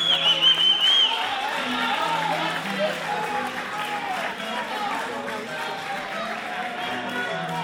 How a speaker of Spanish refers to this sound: un aplauso para él.